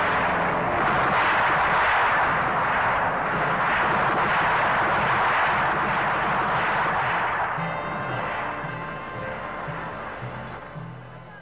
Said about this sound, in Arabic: لقد بدأت الحرب في هذه الساعة بالتحديد. لقد تمت الهجمة الأولى بواسطة طائرة العدو.